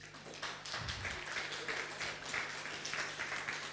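An audience applauds steadily for a few seconds, a dense patter of many hands clapping at once, fairly soft and even throughout with no voices standing out.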